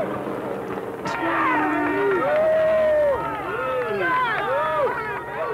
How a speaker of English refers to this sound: When F. Lee Bailey drove his Jaguar through the crowd on the way into O.J.'s estate, the crowd went wild.